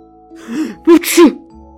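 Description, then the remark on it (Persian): A male teacher sneezes in class: a quick drawn-in breath, then a loud, explosive double burst, with no talking around it. “آقای معلم عطسه کرد.”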